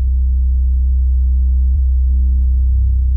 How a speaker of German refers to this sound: Aber die Niederfrequenzversion davon ist genau die gleiche. Nur, dass es in diesem Fall kein hoher Pfeifton ist, sondern wie in meinem Fall eine Art tiefes Grollen.